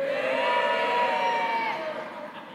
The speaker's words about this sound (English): Any United supporters here? I expect more of a cheer from you.